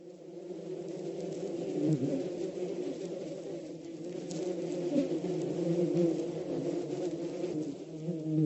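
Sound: bees buzzing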